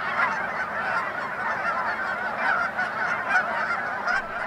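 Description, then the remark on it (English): A dense chorus of Canada geese honking continuously, many overlapping calls from a large V-shaped flock migrating overhead in autumn in the Chesapeake region, steady and fairly loud with no pauses and no talking. “But when you hear the noisy, distinctive honking of a V-shaped flock of Canada geese as they migrate above you, there is no denying that autumn has arrived.”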